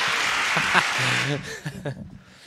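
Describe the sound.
A brief burst of clapping from a small group, dense and noisy for about a second before fading, with people talking over and after it.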